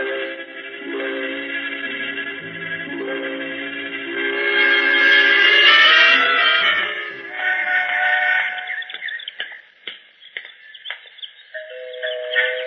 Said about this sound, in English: Even the door chimes sound rich.